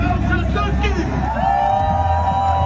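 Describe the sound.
A large crowd chants a name in loud, overlapping voices, with whoops and shouts rising above a steady roar of cheering that never lets up.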